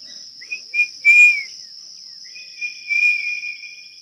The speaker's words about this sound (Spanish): Voy a silbar a ver qué pasa.